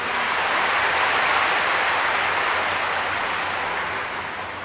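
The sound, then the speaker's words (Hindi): Loud, sustained applause from a large audience at a programme, clapping for themselves: a dense wash of many hands clapping at once that holds steady for several seconds and eases slightly at the end, with no voices. “लाखों की संख्या में भाई और बहनें ऐसे हैं जो दूसरे माध्यमों से इस दृश्य को देख रहे हैं, तो अपने लिए जोरदार ताली बजाइए।”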